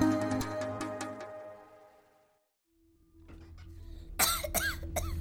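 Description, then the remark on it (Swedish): A girl coughs violently in a cluster of harsh, loud bursts, following a stretch of humming tonal sound and a brief silence. She lies in a small wooden bed in Stockholm that creaks and squeaks with her cough. “Den lilla träsängen knakar och gnisslar av flickans häftiga hosta.”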